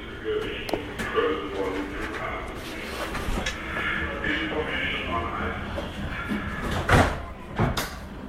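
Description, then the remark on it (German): Busy, echoing train station ambience with a steady low rumble, indistinct murmuring voices, and scattered clunks and knocks like doors and footsteps, including a sharper thud near the end. “Und Bahnhofsatmosphäre.”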